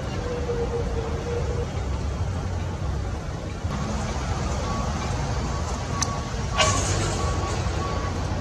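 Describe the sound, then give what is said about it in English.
A heavy lorry loaded with dinghies rumbles steadily as it leaves, broken by a few short, sharp hissing bursts like air brakes releasing in the second half. “The lorry is leaving.”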